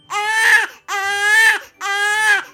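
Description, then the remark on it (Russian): A newborn baby cries loudly in three long, strained wails separated by short gasps for breath, with no other voices. “и в тот же миг вся округа услыхала громкий, звонкий, детский крик.”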